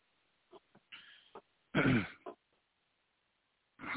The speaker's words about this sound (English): I wasn't able to pay attention. I was having a coughing fit and I'm sorry, honey.